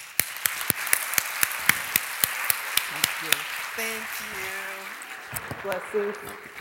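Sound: audience applause welcoming speaker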